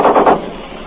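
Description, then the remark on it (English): A machine gun fired from a half-track lets off a short burst, three quick loud shots in rapid succession, followed by a fading rumbling echo. No one speaks. “Our machine gun just fired from the fast track. Three or four shots, you probably heard it.”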